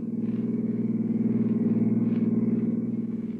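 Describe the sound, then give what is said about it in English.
A car's steady, low engine drone hums without a break as it cruises at an even speed along the lonely Skyline Drive, high over the sea, as it gets dark; no voices. “It's getting dark when you check out of the hotel, meet Anne, toss your luggage into the back of her car, swing out of the city and wind your way along the lonely Skyline Drive, high over the sea.”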